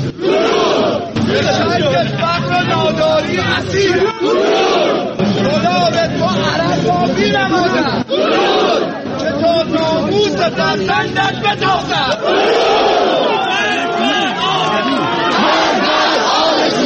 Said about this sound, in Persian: و پس از آن بود که جمعیتی از مردم خشمگین در برابر سفارت عربستان در تهران ساعتی تجمع کرده و فریاد زدند.